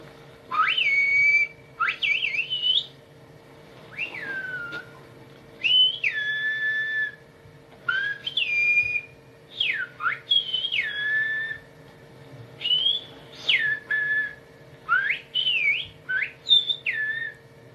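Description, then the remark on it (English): Whistled Spanish, an ancient whistle language used by shepherds: loud, piercing whistles that glide up and down in short phrases separated by brief pauses, over a faint steady hum, with no talking. “So, this is a tool that the shepherds use. So, an ancient pastoral techniques used for different languages. So, here we go. Whistled in Spanish here.”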